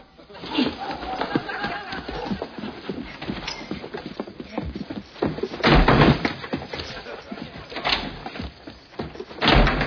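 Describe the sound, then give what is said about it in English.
A door being forced open, with repeated heavy thuds and rattling bangs, the loudest around the middle and again near the end, forceful. “You can't even get the door open.”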